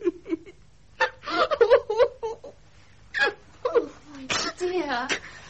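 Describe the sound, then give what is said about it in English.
A woman cries and sobs in short, shaky bursts with wavering, rising-and-falling pitch, broken by gasping pauses, while a voice briefly speaks between the sobs. “Don't cry, my darling.”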